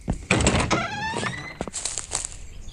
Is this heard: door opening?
yes